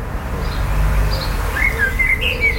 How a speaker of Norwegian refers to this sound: svarttrost.